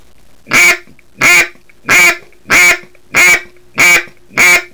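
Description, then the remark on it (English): Seven loud, evenly spaced quacks blown on a duck call, each a short raspy burst with brief pauses between, with no talking. “We learned how to put several quacks together.”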